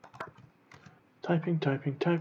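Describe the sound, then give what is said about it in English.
A brief burst of quiet, quick computer keyboard typing, a handful of light clicks, is followed by a louder voice speaking. “Typing.”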